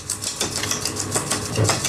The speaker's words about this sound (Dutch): Nou, en nou ga ik even de mixer aanzetten. Kijk, nu gaat het een klein beetje stuiven.